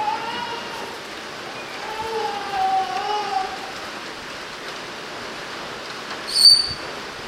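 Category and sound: nature, rain falling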